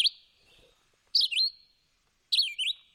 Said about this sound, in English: They sing more phrases than any other bird in North America. So it's going shriek, shriek, shriek, shriek. Yeah, I agree. Each one is distinct, right? Very much so. So it does that all day for 16 hours.